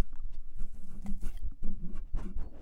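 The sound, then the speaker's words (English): A dog on a bed on a rainy day licks right up against the microphone, producing a run of wet, smacking slurps and soft rubbing bursts, irregular in rhythm, with no talking. “He licked the mic.”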